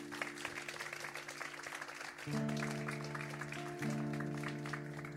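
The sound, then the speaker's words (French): A festival audience claps continuously for several seconds, applauding the hosts, a dense, steady patter of many hands. Partway through, sustained humming tones rise beneath the applause and hold to the end. “Vous pouvez les applaudir bien fort.”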